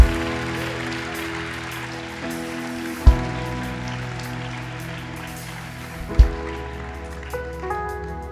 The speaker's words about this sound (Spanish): Denle un aplauso fuerte al Rey de Reyes y Señor de Señores.